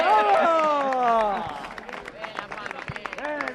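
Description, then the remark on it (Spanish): A burst of excited voices whooping with rising and falling pitch gives way to a patter of scattered applause, the claps quick and irregular, with chatter continuing underneath, as the Navalcarnero football club reacts to being drawn against UD Las Palmas. “Aplausos.”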